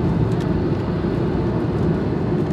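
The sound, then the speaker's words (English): A loud, steady roar of airplane engines as the plane lifts off on a cloudy day at Jeju City for a 40-minute flight, heard from inside the cabin, with a dense low rumble that holds constant throughout and no voices. “Oh, lifting off now.”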